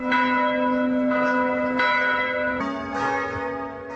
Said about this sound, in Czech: V 18 hodin se po celé zemi rozezněly zvony kostelů.